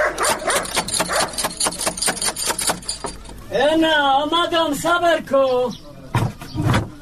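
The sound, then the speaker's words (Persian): A dangerous dog barks several times in quick, loud bursts at a house gate, following a run of rapid knocking on the gate door. “اوهو این چی سگ خطرناک داره که نخوریم.”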